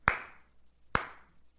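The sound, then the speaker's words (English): Two sharp, isolated hand claps roughly a second apart, each a crisp bright snap that fades quickly, with quiet in between and no voices. It is far too sparse to sound like a crowd's applause. “Professional artists will work their voices and their talents, and they'll practice hours upon hours upon hours and travel the entire world on a rigorous schedule so that they can sing in front of a crowd and receive this.”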